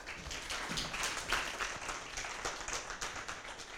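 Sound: audience applause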